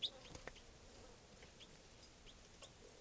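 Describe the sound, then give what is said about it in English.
A captive bird at a camp chitters in short, high, scattered chirps, fairly faint, over a quiet background hiss with no voices. “And that's 305 chittering there.”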